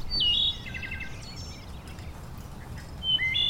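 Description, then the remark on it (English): A bird calls with a bright whistled note and quick chattering trill, then repeats the whistle near the end, heard clearly over a steady low outdoor rumble. “It has meaning that the bird is trying to communicate.”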